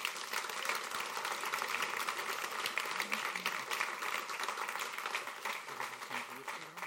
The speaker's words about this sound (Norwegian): Vil dere gi deg en applaus, så kan dere få lov å sette seg.